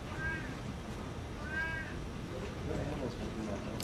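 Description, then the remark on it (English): A male cat, shut in and protesting, meows twice in short, insistent cries about a second apart, with a fainter third call trailing off, all over a steady rumbling background noise. “That's Kilele, the cat. He's protesting his unjust imprisonment.”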